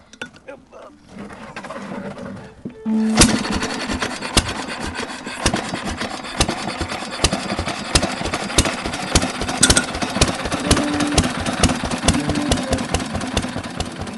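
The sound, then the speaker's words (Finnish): A stationary farm engine at an engine music festival putt-putting, starting up about three seconds in and then chugging steadily with loud, rapid rhythmic firing pulses and a rough mechanical clatter throughout. “mitä toi maamoottorin sytkytys sulle merkitsee tai sanoo?”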